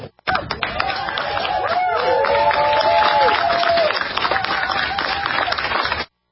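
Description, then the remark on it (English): The White House press pool cheers and applauds steadily for about six seconds as President Joe Biden approaches the media at a mock White House set, with dense clapping, shouts and a few rising whoops and whistles, all loud, then cutting off abruptly. “Why is the White House press pool cheering on the president?”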